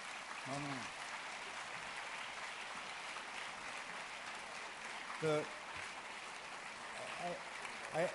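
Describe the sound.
An audience applauds steadily for about eight seconds, a dense, even wash of clapping, with a few brief voices or shouts rising out of it now and then.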